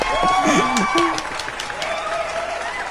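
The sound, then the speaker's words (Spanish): An audience on Marroco Radio applauds a couple aged about 20 who want to formalize their life, in a steady wash of clapping that lasts the whole clip, with voices calling out and talking over the start before the clapping carries on alone. “Bueno, aplausos porque ya quieren formalizar su vida a la edad de 20 años.”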